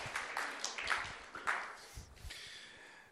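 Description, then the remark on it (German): An audience applauds itself for coming on a Saturday morning, a dense patter of many hands clapping at once, fairly soft and steady for a few seconds with no one speaking over it. “Darum gebt euch selber mal einen grossen Applaus, dass ihr es geschafft habt, heute Morgen hier zu sein.”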